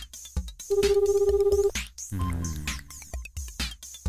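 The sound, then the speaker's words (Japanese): A single burst of outgoing phone ringback tone, a steady warbling buzz lasting about a second, followed by brief clicks and line noise as the call connects, as a first caller is phoned. “出てくれるかな。”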